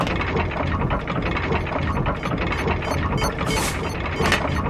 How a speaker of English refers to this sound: This is a conveyor belt.